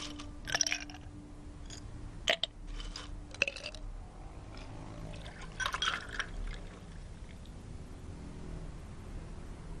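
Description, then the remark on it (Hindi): Water is poured into a container in a short, gurgling burst, with a few clinks and knocks of a glass or jug around it against a quiet background. No one speaks. “पानी? पानी चाहिए? मैं अभी लेकर आती हूँ।”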